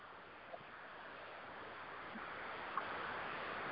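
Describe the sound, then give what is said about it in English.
Steady rain, heard from inside, hisses evenly throughout and grows slightly heavier toward the end, with a couple of sharper drop-like taps standing out from the wash. No one speaks. “Because the rain is much louder.”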